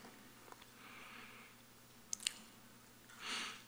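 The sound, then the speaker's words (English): Quiet chewing of a piece of communion bread, with soft moist mouth sounds, a couple of small clicks, and a brief rustle near the end; no one speaks. “As you instructed your disciples, I too receive this bread in remembrance of you. Let's partake.”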